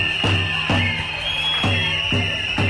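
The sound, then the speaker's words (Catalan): A protest crowd at a rally concerning the Catalan Department of Education roars, with shouts for resignation, under a long, shrill, steady whistle, while heavy drum beats thump at an uneven pace, about five booming hits over a dense, loud wash of noise. “Han expressat el seu malestar de totes les maneres possibles, amb crits de dimissió, xiulets, pots de fum, picant tambors o amb tot el que feia soroll.”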